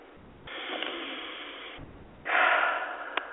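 breathing

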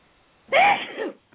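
sneeze

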